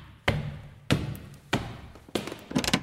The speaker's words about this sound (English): Now we're live in Mexico City, and there's a damn knock at the door. Holy smokes, someone's already knocked.